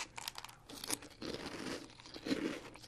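Crunching of someone chewing crunchy, sweet breakfast cereal during a blind taste test comparing cereal brands, a steady run of dry, crackly bites for a few seconds with no talking.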